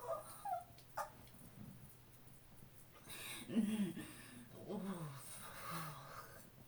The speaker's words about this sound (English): Oh God, the fucking chicken.